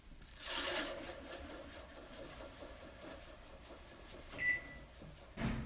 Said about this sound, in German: Und währenddessen füllen wir den Zucker, und zwar 120 Gramm Zucker, in eine Schüssel und dann hören wir uns gleich wieder.